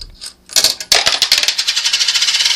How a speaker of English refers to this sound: Aha! The coin was ejected. It went right into the coin tray at the bottom of the machine. That means we are in immediate payout mode.